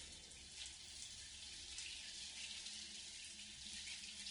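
Hot water runs steadily from a tap, a continuous hiss and splash as it pours over a surface and rinses away suds, with no voices.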